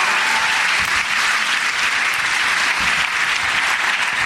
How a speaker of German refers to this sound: Ein Applaus für unseren Hund! Hund, Hund, Hund!